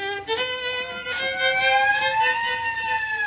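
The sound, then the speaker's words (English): A police squad car siren wails steadily as the car pulls up, its tone slowly sliding downward, with faint rumbling underneath and no talking. “No, it's a squad car pulling up.”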